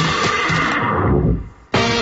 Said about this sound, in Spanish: Un caballo puede sonar muy bien.